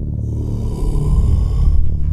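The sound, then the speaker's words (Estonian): A deep, rumbling breath with heavy low bass, drawn out steadily, almost like a snore, with a faint airy hiss on top and no voices. “Hingamise sees on ka natukene sellest madalaid sagedusi, et ta ei ole lihtsalt sellest päris sellest joogameditatsiooni hingamine, mida ma tegelikult algselt ja nagu mõtlesin, aga ta ei kukkunud päris niimoodi välja.”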